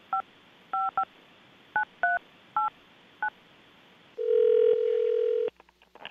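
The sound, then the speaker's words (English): A quick series of touch-tone keypad beeps as a telephone number is dialed, seven short dual-pitched tones in an uneven rhythm, followed by a steady ringing tone on the line that cuts off abruptly. No voices. “Do you want to hold the line for a moment? And I'm going to dial him up.”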